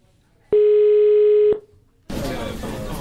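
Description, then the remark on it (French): A single steady telephone ringback tone of an outgoing call, a European tone, sounds for about a second, loud and clear, then stops; after a short pause, a voice starts speaking. “Bon, déjà il y a une tonalité qui vient d'Europe.”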